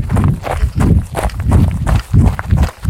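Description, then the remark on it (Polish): Steady running footsteps thud on a hard surface in a quick, regular rhythm, fairly loud, with no voices, as a runner passes under a railway viaduct on a trail between allotment gardens in Kraków, Poland. “Przebiegamy pod wiaduktem kolejowym, no to musi być trochę twardszej nawierzchni, ale generalnie, jak widzisz tutaj, ścieżką pomiędzy ogródkami działkowymi, schodzimy z powrotem na miękką nawierzchnię.”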